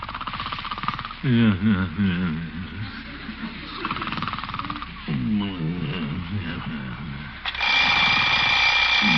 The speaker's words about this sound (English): Oh, alarm. Oh, shut up. Better get up, I guess.